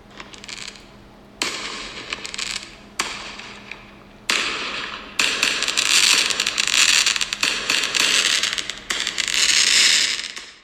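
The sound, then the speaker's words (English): A rapid series of loud Fourth of July fireworks booms as the really big ones launch, each burst sharp and sudden, then building into a dense, sustained barrage of overlapping explosions and crackling, with no one talking. “I think they're about to launch the really big ones.”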